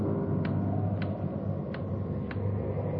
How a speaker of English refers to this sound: Sure a loud clock.